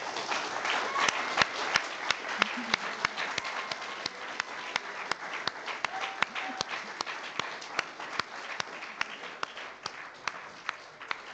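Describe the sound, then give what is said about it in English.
Sustained applause from an audience, a round of applause for two people being praised, a dense wash of many hands clapping with sharper individual claps popping out, steady and fairly loud for the whole stretch with no talking. “And I personally have tremendous admiration for the two of them, and I really think they deserve a round of applause.”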